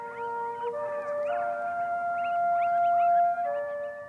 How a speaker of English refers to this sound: Coyotes howl at dusk and dawn to the military music at the U.S. Army Dugway Proving Ground.